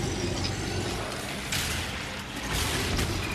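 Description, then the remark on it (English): A video game rocket launch: a dense, roaring whoosh over a steady mechanical rumble, with two bright bursts of noise about a second apart. No one speaks. “See, there was the rocket noise.”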